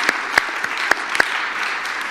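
Audience applause, a dense steady patter of many hands clapping together, with a few sharper claps popping out above the crowd, no voices heard, as a participant hobbles back to his place.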